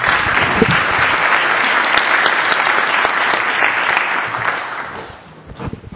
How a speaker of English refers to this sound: Everybody, a round of applause.